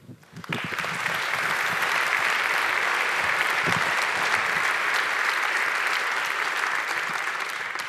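An audience bursts into steady, loud applause after a brief quiet start, the dense clapping holding an even level for several seconds before easing slightly at the end.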